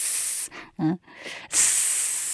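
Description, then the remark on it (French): A person breathes out a sharp, steady hissing "sss" sound, the lung sound of a breathing exercise likened to bees, two loud sustained hisses separated by a short, soft voiced murmur in between. “Le son poumon, c'est S. Comme les abeilles faisent S.”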